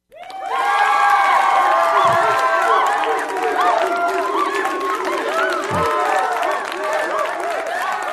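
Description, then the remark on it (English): A large crowd cheers and shouts loudly and continuously, a dense wall of overlapping voices and whoops that rises sharply at the start and stays steady throughout. “Hey, you monkeys. Hey, it's time to cheer now.”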